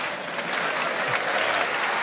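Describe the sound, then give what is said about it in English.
Steady applause from an audience, a dense, continuous patter of many hands clapping at once for about two seconds, fairly loud and even throughout with no voices standing out. “So we're getting claps, we must be close.”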